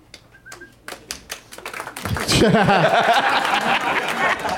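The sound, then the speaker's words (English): A thin smattering of applause: a few scattered claps at first, then a denser patch of clapping mixed with chatter and light laughter from a small group, celebrating the obvious correct answer Knocked Up in a movie quiz. “That's the applause you get when everybody's just celebrating a crazily obvious answer.”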